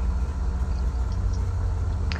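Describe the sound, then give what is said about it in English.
An aircraft engine idles after landing, with the parking brakes set, before being shut off, a steady, low rumbling drone, fairly loud, holding an even pitch throughout with no voices over it. “Engine off.”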